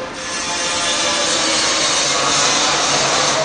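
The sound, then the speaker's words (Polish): Steady, loud carpentry noise fills a tram modernization workshop where M8C trams are being refitted, a continuous rasping of wood being sawed or sanded by carpenters that holds without pause for a few seconds. No voices are heard. “Dookoła nas są modernizowane tramwaje. W tym momencie modernizujemy tramwaje typu M8C.”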